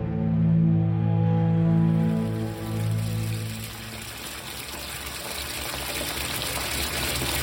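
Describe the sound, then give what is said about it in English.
Water pours steadily from a tap into a filling bathtub, a constant rushing hiss, with a low droning pipe hum during the first few seconds that then fades out. “Owen drew a bath as the sun began to shine through the bathroom window.”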